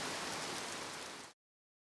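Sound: rain falling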